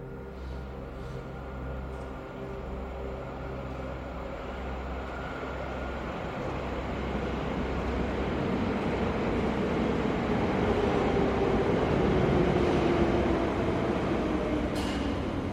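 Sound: train arriving at station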